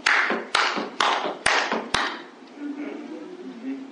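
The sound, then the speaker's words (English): Five sharp hand claps land in a steady, even rhythm about half a second apart as a preacher demonstrates a way of clapping during a sermon, followed by a quieter stretch of low background murmur. “Well, now, if you was in a white church, a black boy, and your blackness was ruling you, and not the Spirit, I said, here's how you would clap.”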